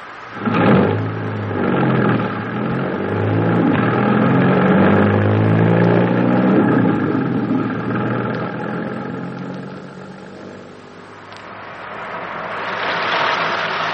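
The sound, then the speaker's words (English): A car engine starts up and drives off, its steady mid-pitched roar rising and falling as it revs and accelerates, with no voices over it. “Don't drive too fast now and don't take any chances.”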